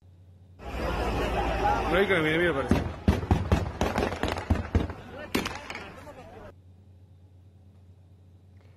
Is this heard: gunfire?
yes